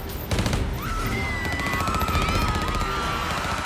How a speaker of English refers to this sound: Among them, a car in the parking lot was blaring music. When one of Purvis's agents ordered it to stop, they ignored him. The music was too loud, and so the agents opened fire. They began spraying the car with bullets.